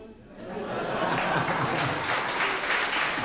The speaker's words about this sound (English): You can clap, too.